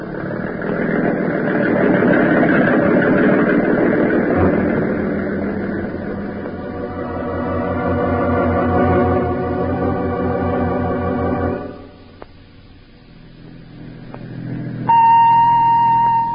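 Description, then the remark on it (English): A boat motor is started to head out to an island and rumbles to life, running with a loud, steady, buzzing drone for several seconds, its tone settling into an even hum before it cuts out and a brief high beep follows. “Now, turn that motor over, baby. Let's get out to that island fast.”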